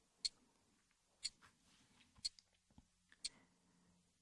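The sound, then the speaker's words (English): A wristwatch ticks softly and steadily, four crisp clicks about a second apart, against a quiet background with faint low rustling between ticks. “Relax and let each subtle tick of my watch take you deeper and deeper into my hypnotic trance.”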